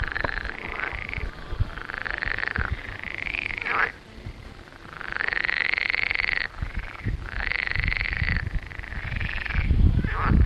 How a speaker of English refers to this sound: The weather was hot and humid for the first few days, and in a lovely garden, we discovered some frogs. Very loud frogs.